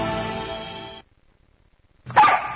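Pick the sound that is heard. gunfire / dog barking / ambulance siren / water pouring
dog barking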